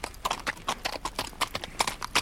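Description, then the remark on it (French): Horse hooves clip-clop in a steady, brisk rhythm, a long run of crisp knocks at even spacing, with no voices over them. “Il fut réveillé par un écart de cheval.”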